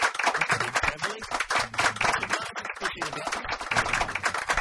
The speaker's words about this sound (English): Just some polite applause, as you can hear them.